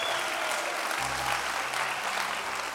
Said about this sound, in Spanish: Vamos, si usted lo cree, dele un aplauso. Se merece un aplauso.